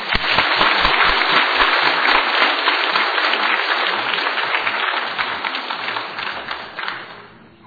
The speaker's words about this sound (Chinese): 非常感谢诗班还有儿童今天在这个大喜的日子带给我们主耶稣基督他已经复活的信息，我们大家再一次来拍手，把荣耀归给神。